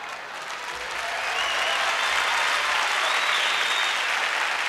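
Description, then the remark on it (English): An audience claps together in a dense, continuous wash of hand claps that swells over the first second and then holds steady and loud, with no clear beat and no talking. “You can't clap if you can't carry the beat, so you gotta not clap, okay?”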